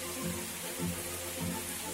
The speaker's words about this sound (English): Get into the shower here. Oh, there we go.